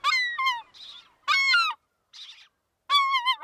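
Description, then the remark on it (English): Loud, raucous calls of an American herring gull: three bursts of strident, nasal cries with harsher, breathy squawks in between, and no voices. “Just as raucous and hefty as its cousins, you can find American herring gulls from Alaska to Puerto Rico, squabbling over table scraps at an inland landfill, or scarfing down French fries by the beach.”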